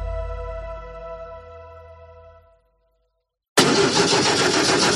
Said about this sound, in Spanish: Así suena el motor de un coche mal cuidado.